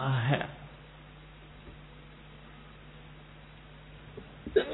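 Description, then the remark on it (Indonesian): A single short, sharp sneeze bursts out right at the start, then all falls to a quiet hum before a brief noise near the end. “Hadikum Allah subhanahu wa ta'ala.”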